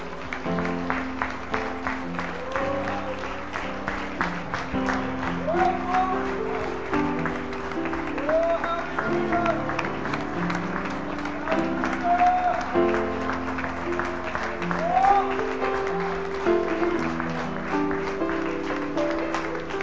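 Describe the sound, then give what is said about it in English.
A church audience giving God a clap offering all over the building, in sustained, dense applause that holds steady for the whole stretch, with sustained musical tones and occasional voices rising underneath. “This may seem strange, but thinking about the virgin conception of Christ and the miracle that God performed, I want us to give God a clap offering all over the building.”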